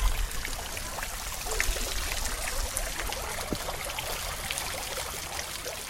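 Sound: trickling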